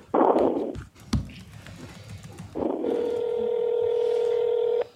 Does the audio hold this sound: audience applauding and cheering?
no